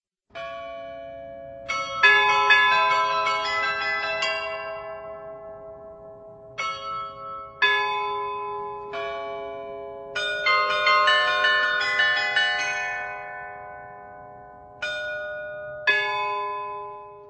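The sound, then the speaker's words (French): Church carillon bells high in the bell tower of the baroque Loreto church in Prague, near Hradčany castle, ring out a melodic tune, successive struck notes with long ringing decay overlapping one another, moderately loud, with no voices present. “L'un des plus beaux complexes baroques de Prague, non loin du château de Hradčany, ancien lieu de pèlerinage, connu aujourd'hui notamment pour son carillon qui non seulement mesure le ton, mais qui joue aussi des airs appréciés par les passants.”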